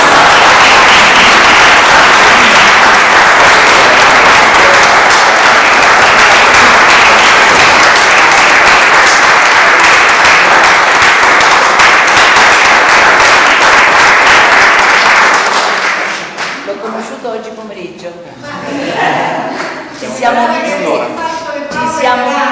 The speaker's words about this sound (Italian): applauso solo per lui, che è un artista grandissimo.